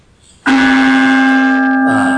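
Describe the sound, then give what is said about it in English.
A single bell is struck once, ringing out loud with a bright metallic strike, then a steady, sustained resonant tone that hangs in the air and slowly shimmers without fading much. “you want to give us a ring of the bell?”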